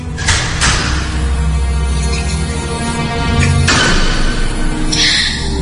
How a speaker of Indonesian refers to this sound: Hingga tiba-tiba terdengar suara pintu yang terbuka dan terbanting tertutup kembali.